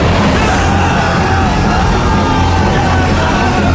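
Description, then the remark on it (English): A group of boys from the York Academy swim team scream together at a pool as a blob of foam comes at them, a loud, sustained chorus of yelling without a break, chaotic with no clear words. “They scream.”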